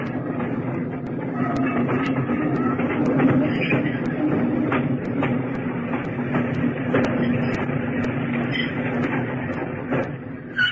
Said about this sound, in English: On Sunday, March the 8th of that year, engine driver Bird, in charge of a freight train traveling between King Williamstown and Berlin, saw in the glare of his headlights a large obstruction on the line.